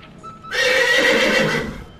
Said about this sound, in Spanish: Los caballos. Correcto.